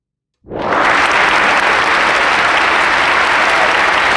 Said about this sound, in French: Ce sont de vrais applaudissements, qui n'ont pas été rajoutés.